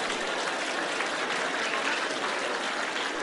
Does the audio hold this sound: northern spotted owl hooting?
no